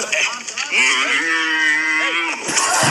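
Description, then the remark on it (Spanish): A camel bellows in a long, drawn-out groaning call lasting over a second, loud, with a slightly tinny, phone-speaker quality and some background noise; it comes from a video played on a cell phone held up to the microphone. “Oye, se escuchó solamente el camellazo, ¿no?”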